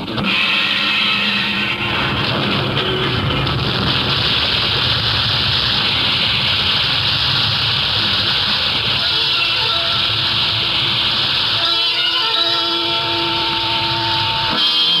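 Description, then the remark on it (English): Molten metals fused in a melting pot pour into an earthwork casting mold with a loud, steady roaring hiss that runs unbroken throughout, over a low rumble, with some faint metallic tones emerging near the end. “Then signal Li Po that the pouring may commence.”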